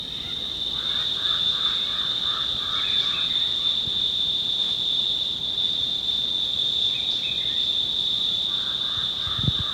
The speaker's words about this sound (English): There's awnies in the background now, over the jabbering crow and cicada.